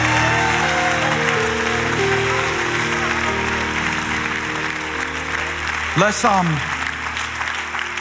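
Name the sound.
audience clapping hands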